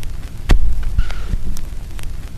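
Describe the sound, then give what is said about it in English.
A vinyl record's run-out groove thumping in a steady loop as the stylus crosses where the spiral groove turns into the closing circle at the record's center: soft, low, muffled thumps about every half second over a constant low hum and faint surface crackle. No voices. “That kind of little thump as it crossed over where the spiral turns into a circle.”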